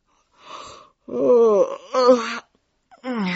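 A man yawns aloud in a long, drawn-out voiced stretch that slides downward in pitch, with a breathy intake first and a short groaning tail after, fairly loud.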